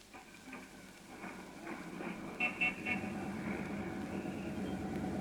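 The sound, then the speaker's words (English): Steady street traffic rumbles throughout, heard while riding on top of a Number 5 bus, with a couple of short car horn toots around the middle standing out above the continuous engine and road noise. “Riding home like this on top of a bus?”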